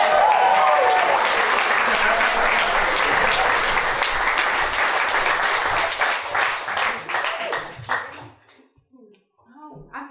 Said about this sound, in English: Everyone, huge round of applause!